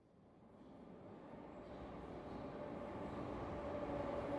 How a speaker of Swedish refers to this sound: Äntligen rullar tåget in på perrongen.